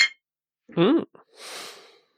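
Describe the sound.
A voice imitates the clink of glasses for a toast with a brief, bright vocal 'ding' that bends in pitch, followed by a soft breathy exhale. A faint tick comes just before it.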